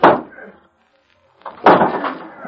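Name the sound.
door being smashed open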